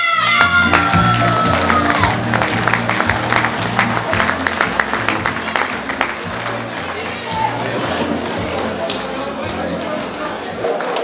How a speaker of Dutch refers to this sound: Goed, ik begrijp uit het gejuich dat de prijzen absoluut gewaardeerd worden.